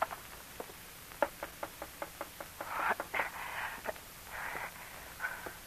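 A quick series of sharp, evenly spaced knocks on a window at night, moderately loud, followed by a few rougher rattling bursts, with no voices.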